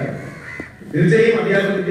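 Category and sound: bird, crow cawing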